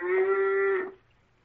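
A cow in a herd lets out one loud, drawn-out moo, holding a steady nasal tone for nearly a second before it cuts off into quiet.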